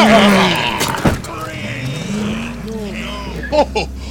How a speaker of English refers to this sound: What, how the hell did you get a 53 Studebaker in the building?